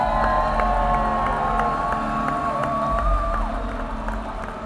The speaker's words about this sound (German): Deswegen einen großen Applaus